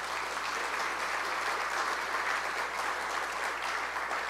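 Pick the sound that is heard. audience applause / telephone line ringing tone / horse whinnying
audience applause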